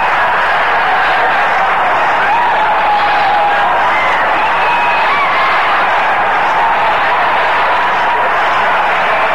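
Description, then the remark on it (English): A packed basketball arena crowd roars and cheers continuously, a loud, dense wall of voices that holds steady for the whole stretch with no individual speech standing out, as Michigan calls a timeout with one second left and the score at 82-81. “Just listen to this crowd.”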